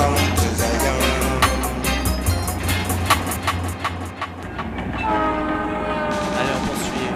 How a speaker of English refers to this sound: Saint Jacques, morning train. The morning train. The morning train.